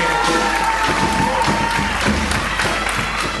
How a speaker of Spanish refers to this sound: Así que bueno, muchos años más por estos proyectos y fuerte el aplauso, señoras y señores, con ustedes, grita, canta, muy campante, la murga, la funcionante.